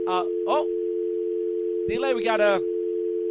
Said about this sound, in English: He's gone already? There you go. Now it's gone. We had the dial tone clicking in on us.